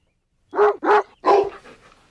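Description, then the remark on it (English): A dog barks three times in quick succession, loud, each bark sharp with a harmonic yelp, the last one trailing off into a fading whine. “Dad, I understand the silverware, but why the dog?”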